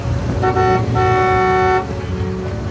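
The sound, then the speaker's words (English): A BMW pulls up alongside a man walking along a quiet street with a low engine rumble, and its horn blares twice, a short toot followed by a longer steady honk, before the engine idles on. “A BMW pulls up alongside him.”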